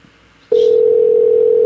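A steady telephone dial tone switches on after a brief quiet moment and holds at a constant pitch, loud, with a short click at its start.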